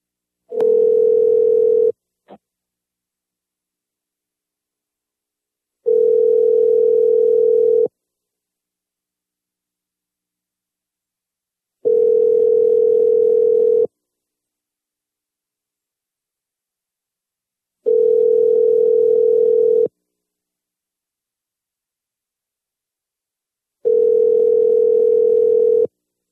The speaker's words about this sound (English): All right, I'm calling Orion.